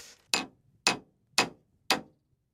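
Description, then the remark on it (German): A nail is hammered with a glass dildo: four sharp knocks at a steady pace about half a second apart, each ringing briefly before fading, with no voices. “Wollen wir mal die Nagelprobe versuchen? Oh ja, Nageln, geh mal her.”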